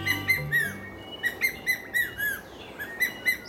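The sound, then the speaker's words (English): An ornate hawk eagle calls in a rhythmic series of high, clear whistled notes, each short and slightly slurred, repeating steadily about a dozen times over faint background hiss. “It might not be your average call for either a hawk or an eagle, but it's the distinctive call of the ornate hawk eagle.”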